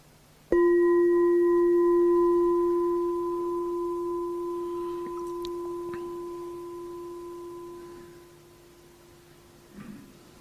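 A single struck meditation bell is invited after a bow to the Buddha. It rings out with a clear, pure tone and bright overtones, and its resonance fades slowly over about eight seconds of otherwise quiet.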